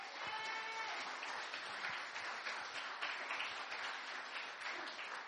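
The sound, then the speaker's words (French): An audience at a French-language church service applauds as an offering of acclamation for the word of God, a dense, steady wash of clapping that holds at an even loudness for about five seconds, with a brief high-pitched cheer near the start. “Est-ce que nous pouvons donner une offrande d'acclamation pour la parole de Dieu?”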